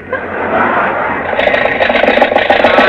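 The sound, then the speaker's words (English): A car engine runs with a steady, rough drone, then turns choppy and sputters in quick uneven bursts as the car runs out of gas, fairly loud, with no voices over it. “Now you've done it, we've run out of gas.”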